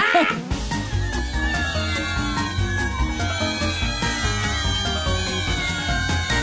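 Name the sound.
cat meowing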